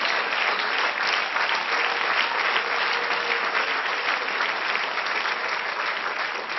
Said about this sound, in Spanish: Dele aplauso al Señor.